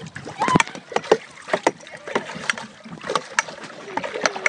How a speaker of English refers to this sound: And we're going to make a sound of water.